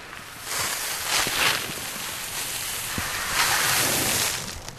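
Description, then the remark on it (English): A steady granular hiss of cracked corn and pellet feed poured from a white bucket onto the ground along an electric fence to feed cattle, swelling twice as the flow surges, fairly loud with no voices. “pours a white bucket filled with a speckled mixture of grain onto the ground below.”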